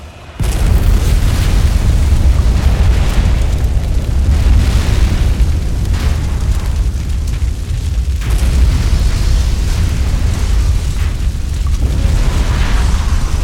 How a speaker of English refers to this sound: Though not all of the Autominer cradles were fueled, they were more than enough to cause a massive chain reaction of explosions, tearing through the cavern, vaporizing dozens of Wendigos.